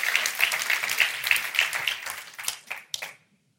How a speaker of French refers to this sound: Est-ce qu'on peut applaudir tous ceux qui vont prendre une décision ce matin d'être des leaders?